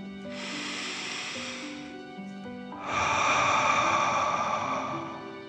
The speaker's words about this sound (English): Breathe in through your nose, filling up your chest and belly, and then out through your mouth, pretending you are breathing fire. Ready? Okay, breathe in and out.